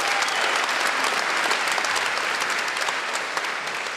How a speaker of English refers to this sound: Come on, let's give a hand clap, and we're going to call Jesus today.